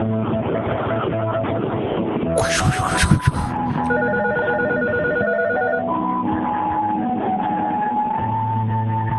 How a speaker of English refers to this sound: Phone ringing and the MIDI sound effects are a totally original idea, and I didn't steal them from anyone. And if you heard that anywhere else, they stole it from me, even if they did it 5-10 years ago.